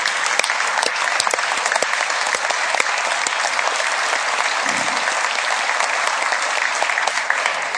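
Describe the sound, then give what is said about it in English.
Sustained applause from a large audience, a dense, steady patter of many hands clapping at full volume for several seconds without pause, given as a round of applause to welcome a man. “So I would ask you to give him a round of applause, please.”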